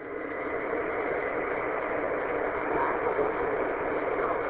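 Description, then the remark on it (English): A steady, continuous engine drone with a broad, hissy rumble from a car driven on a commute to work, heard from inside the car, unchanging for the whole stretch with no voices. “I just hopped in the car on a little commute to work and heard the net going on, so I just wanted to pop in and say hi.”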